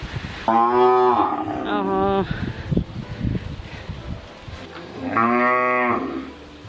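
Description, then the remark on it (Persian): A cow in a village lets out two long, loud moos, separated by a few seconds of rustling and shuffling noises. “خب شما دیگه قریه را خب میفهمین نه، وقتی که بری گاو از گوسفند از بز از یعنی واقعا خوشایند میگذاره براتون.”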